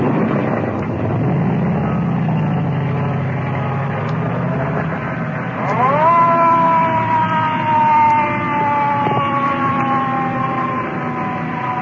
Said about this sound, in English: Ambulance disappearing in the traffic.